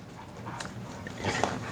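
dog panting and whimpering

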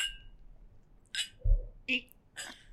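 whiskey glasses clinking

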